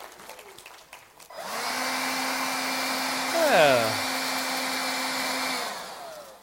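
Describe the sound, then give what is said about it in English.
After a brief spoken word, an electric blower whirs on with a steady, droning motor hum, wavers in pitch briefly midway, and runs about four seconds before cutting off. “Friends, this isn't really about lights or blowers.”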